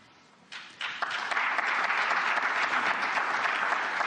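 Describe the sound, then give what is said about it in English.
An audience applauds tepidly: a few scattered claps begin, then fill out within a second into steady, moderate clapping that holds evenly without cheers or voices. “Encouraging, he got applause. Frustrating that it was so tepid.”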